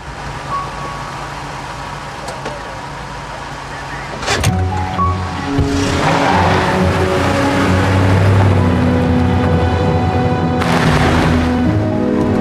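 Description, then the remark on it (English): A truck engine idles with a low, steady rumble, then a sharp clunk as a woman puts it into reverse, and the engine grows louder and rougher as the truck backs up along a track to a man lying injured beside it. “Raising her eyes to heaven and pursing her lips, she puts the truck in reverse and backs up to Jaeger's stricken form.”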